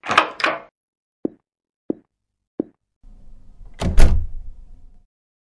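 A door opens with a quick clatter, three sharp, evenly spaced taps follow, and then the door swings shut with a low rumble and a solid, loud thud as Rosemary leaves through it. The door leads to the main store. No one speaks.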